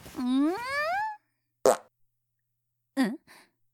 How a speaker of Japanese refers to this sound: ん、うん、何今の音、もしかして。くっさー、あんたおならしたでしょ。何よこの匂い、最低。